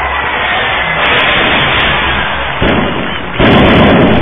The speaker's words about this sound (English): Oh, fireworks ignite the crowd and the chants immediately begin to honor one of the most